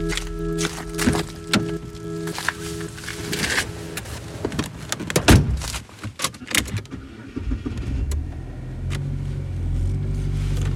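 Keys jingle and a car door thunks shut, followed by rustling movement inside a car parked outside a massage parlour; then a low, steady engine rumble settles in for the last few seconds.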